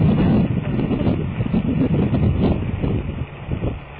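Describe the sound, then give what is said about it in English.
Strong wind buffets the microphone outdoors, a loud, continuous low rumble with gusty surges that ease slightly near the end. “That's some really bad wind, man.”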